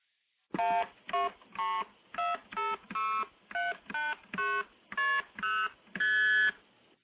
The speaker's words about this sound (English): Now, the MF tones sound a bit more musical and, to my mind, more pleasant, but let me play the same set of 12 MF tones.